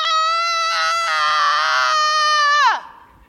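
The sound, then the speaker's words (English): A single voice imitates a two-year-old boy's tantrum on a locker room floor: one loud, sustained, high-pitched wailing scream held for nearly three seconds, then sliding sharply downward and cutting off. “And my son, right there in the locker room, just decides to have an epic tantrum. Full-blown two-year-old blowout.”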